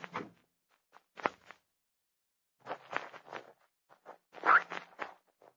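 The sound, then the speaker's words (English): A car door is eased shut quietly so as not to bang it, with a few soft, muffled clunks and rustling handling noises spread over several seconds, low in volume, with no voices, after pulling off the road into pine woods. “Quietly. Do not bang door, please.”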